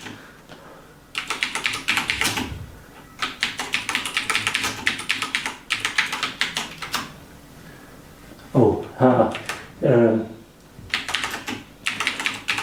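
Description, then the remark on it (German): Rapid clacking of a German-layout computer keyboard being typed on in several bursts while entering BASIC, fairly loud, with brief pauses between runs of keystrokes and a short murmur of voice partway through. “Ich habe hier eine deutsche Tastatur.”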